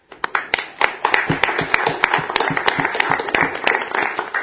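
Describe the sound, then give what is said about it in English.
A burst of audience applause welcoming a former Ithaca resident as a new U.S. citizen, with many hands clapping in a dense, uneven patter and a few sharp louder claps standing out, sustained steadily throughout with no talking. “For now, I don't know the French word for congratulations, but please join me in applause welcoming this former and very dynamic Ithaca resident as a U.S.”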